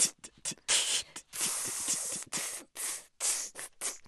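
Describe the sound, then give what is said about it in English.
A voice imitates open hi-hats with breathy hissing bursts made while breathing in, some long and sustained, others short and clipped, in an uneven rhythmic pattern, fairly loud with no talking. “So you can use an open hi-hat sound, but breathe in.”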